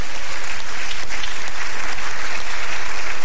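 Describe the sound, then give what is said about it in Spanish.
Steady, loud applause from a church crowd, given to the loving God, fills the whole stretch, a dense wash of many hands clapping together with no pauses and no clear voices on top. “Denle un aplauso al Dios amoroso.”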